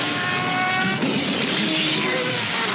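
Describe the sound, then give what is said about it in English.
A Star Wars pod racer engine roars past, racing through Beggar's Canyon at 600 miles per hour: a loud, dense mechanical whine with layered buzzing tones that shifts in pitch about a third of the way through, then keeps howling steadily. “Scream through Beggar's Canyon at 600 miles per hour.”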